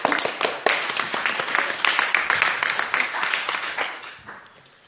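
A crowd applauds steadily for about five seconds, a dense patter of many hands clapping at once that stays loud before fading out toward the end.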